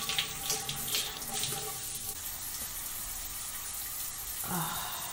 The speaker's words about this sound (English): Enjoying ourselves like this, allowing ourselves to have a long, steamy shower together.